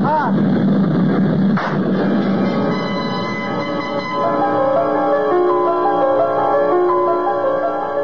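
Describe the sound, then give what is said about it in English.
A single sharp gunshot, a bullet fired into a man's skull, cracks out early over the loud, steady droning roar of a plane with layered humming tones that continues unbroken after the shot. “I tried to jerk my head away frantically at the last moment, but I could feel the bullet smash into my skull and then burst in a fountain of searing sparks.”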